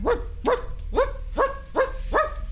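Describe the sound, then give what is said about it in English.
A dog in a yard barks six times in quick, steady succession, each bark short, sharp and fairly loud, over a faint low rumble with no voices, set off by a door screeching loudly on its hinges. “All the doors look just alike, and the first one that she opened screeched so loudly on its hinges that the dog in the yard started to bark.”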